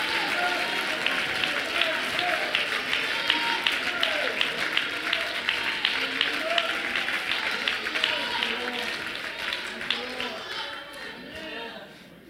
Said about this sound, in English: Is there anybody that would not just clap your hands, but you would shout with your voice as if to say, I'm still believing, I'm still trusting, I'm still depending.